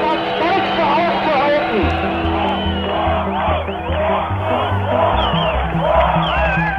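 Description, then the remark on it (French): A large crowd of thousands of Germans at the wall in Germany shouts and chants "Tür auf" (open the doors) together in a loud, continuous roar of many overlapping voices, rising and falling in repeated waves over a steady low rumble. “Tür auf, ouvrez les portes, un cri repris de part et d'autre du mur lorsque des milliers d'Allemands, à l'est comme à l'ouest, ont appris l'extraordinaire nouvelle.”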